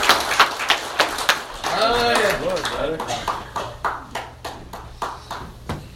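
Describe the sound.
Audience applause: dense clapping with a voice cheering over it, then thinning into a handful of steady, evenly spaced claps that trail off.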